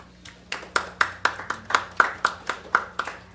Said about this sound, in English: Thank you. I know that's kind of a weird poem to clap for.